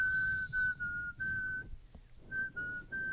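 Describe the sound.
A penny whistle plays a slow, sustained melody of long held notes with a few brief breaks, clear over a low background rumble, with no talking.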